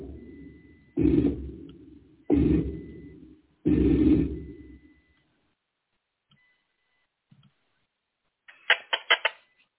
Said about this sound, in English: this is slowed down. This is the original. We call them chirps. Slow down.